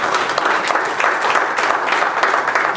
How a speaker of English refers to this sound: Give the Lord one more hand of applause.